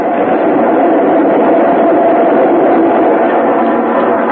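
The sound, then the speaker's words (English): An express train rushes through a station platform without stopping, a loud, steady roar of rumbling wheels and rattling cars that fills the whole moment with no letup and no voices. “Train coming. Oh. It's an express, Pete. It ain't stopping.”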